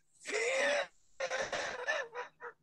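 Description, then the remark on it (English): A raspy, wheezing cough: one long strained wheeze, then a burst of rough hacking coughs trailing off into two short wheezy gasps, no talking. “Dude, you still fighting all that right, cough? Are you it, still dude. Fighting that cough, dude?”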